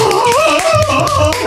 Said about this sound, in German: Applaus.